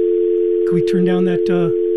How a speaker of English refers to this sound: Can we turn down that phone noise, please?